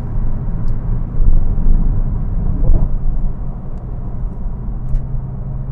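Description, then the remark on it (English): A steady, loud low-pitched engine drone from a car just shifted into sixth gear holds constant throughout, with a slight swell partway through and no voices. “Let's grab a sixth gear here.”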